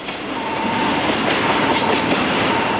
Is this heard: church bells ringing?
no